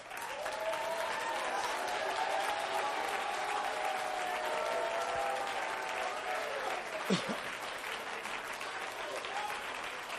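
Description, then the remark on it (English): A church audience stands and claps steadily in a dense, continuous wash of applause, with voices shouting and cheering to God underneath throughout. “My God, I want everybody that's righteous in the house to stand up and clap your hands and shout to God.”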